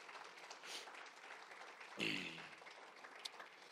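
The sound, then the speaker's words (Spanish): A church audience applauds for Jesus during a service celebrating water baptisms, in a steady, dense, even wash of many hands clapping, with a brief voice calling out partway through. “Denle un fuerte aplauso a Jesús por eso, hermanos, amén.”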